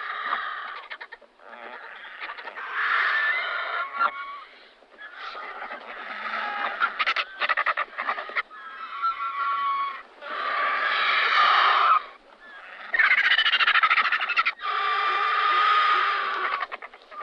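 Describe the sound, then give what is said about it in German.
Griffon vultures, huge birds with a wingspan of about 2.5 metres, give harsh, cackling calls in a continuous run of loud bursts with short pauses between, with no one talking. “Der Gänsegeier ist ein riesiger Vogel mit einer Flügelspannweite von gut 2,5 Metern.”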